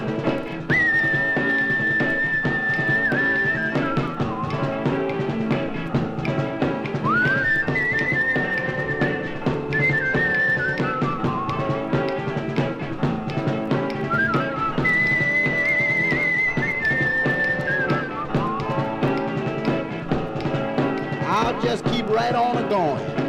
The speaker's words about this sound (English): Till then, I just'll keep whistling and humming this tune and praying that I'd see my baby soon.